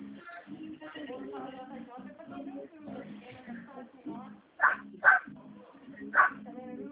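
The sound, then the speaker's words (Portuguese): A dog barks three times in quick, sharp bursts near the end, loud, while people keep talking in the background throughout. “Não desiste, né? Tá louco. Tem um cachorro.”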